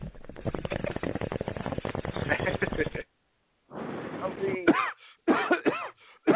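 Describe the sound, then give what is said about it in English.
A loud burst of rapid, harsh coughing for several seconds, then after a brief pause, throaty hacking coughs and strained throat-clearing sounds in choppy bursts. “I'm coughing out all the nonsense they're spewing right now about the McMahons, about Raw, about it being so predictable.”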